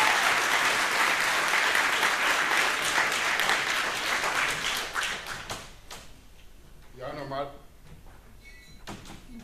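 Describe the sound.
Audience applause welcoming a speaker and his talk on autism, a dense crackle of many hands clapping loudly for several seconds, then thinning out and fading, with a brief voice emerging near the end.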